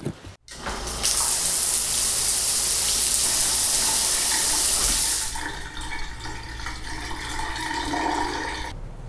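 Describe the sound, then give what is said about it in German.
A shower sprays steadily for about four seconds, a loud hiss of running water, then cuts off, leaving quieter dripping and faint background sounds. “Ich schlage jetzt vor, ich gehe mich eben duschen und dann treffen wir uns beim Schießen.”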